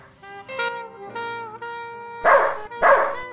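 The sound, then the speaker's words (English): A dog gives two sharp, loud barks, spaced about half a second apart, following a stretch of steady harmonic tones like music or a sustained sound. “Madam, you can't bring that dog in here. Dogs aren't allowed.”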